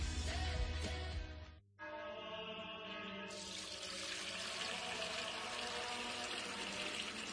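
water pouring

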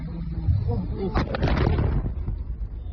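large explosion

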